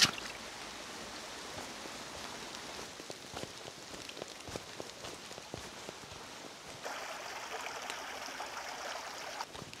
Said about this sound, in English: I've got a beautiful river, forest all around.